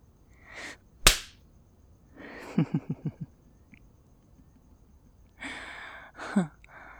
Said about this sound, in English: The whip causes tremendous pain as it slices through the flesh, but repairs as it moves down the skin.